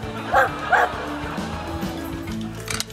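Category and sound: animal, dog barking and yipping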